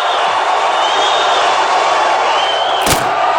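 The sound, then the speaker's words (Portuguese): At the 1967 Festival da MPB in Brazil, an audience boos in a loud, unbroken roar of many voices at Sérgio Ricardo, who broke his guitar and threw it into the crowd; one sharp crashing thud cuts through near the end. “o Festival de 67 também é muito lembrado pela passagem na qual Sérgio Ricardo quebrou e atirou seu violão na plateia que o vaiava.”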